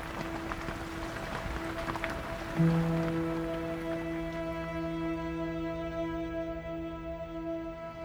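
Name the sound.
rain falling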